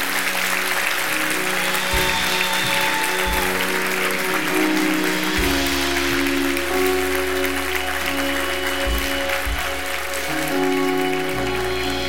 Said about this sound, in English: Go ahead, give him a round of applause.